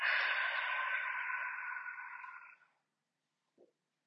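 A long, forceful breathy exhale rushes out for about two and a half seconds, steady before fading, followed by silence and a faint short click. It is the final long exhale of a breathing exercise, after which the lungs are held empty.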